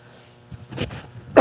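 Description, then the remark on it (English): A couple of muffled, breathy coughs from a speaker wearing an attached microphone during a sermon, followed by one sharp, loud, harsh cough burst at the end, with no talking. “I got to figure out how to cough with a microphone attached to me.”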